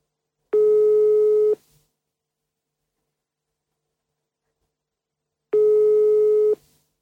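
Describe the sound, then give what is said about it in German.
A telephone ringback tone sounds twice, each a steady one-second electronic hum separated by about four seconds of silence, clear and fairly loud with no one answering or speaking. “Der braucht zu lange zum Antworten. Nehmen wir jemand anders.”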